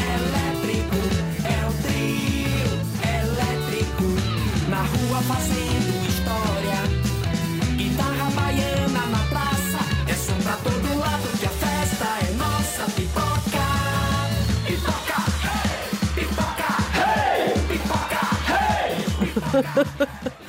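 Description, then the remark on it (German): A loud, upbeat carnival song with a driving beat, heavy bass and dense layered instruments playing steadily throughout, with faint shouting or cheering mixed into the music. “Das ist so ein richtiger Karnevalssong. Also da explodiert die Stimmung.”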